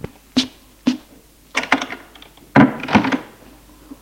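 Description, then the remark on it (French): A servant shuts the door after letting a visitor in: a series of wooden thunks and latch clicks, two short knocks, then clustered rattling clunks ending in a heavier bang, with no voices. “Et le domestique ferme la porte.”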